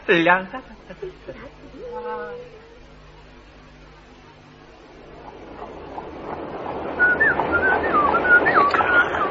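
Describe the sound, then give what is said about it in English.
Someone whistles a thin, wavering tune in the second half, the notes riding over a rising rumbling clatter like a moving vehicle. Brief voices and sounds come first. “Driver, stop that horse from whistling.”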